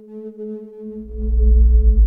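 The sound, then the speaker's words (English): A steady, unwavering electronic sine wave test tone from a sine wave generator hums evenly throughout, and after about a second a deep rumbling drone swells up beneath it and grows louder. No voices. “For example, sine wave generators, which were used for measurement.”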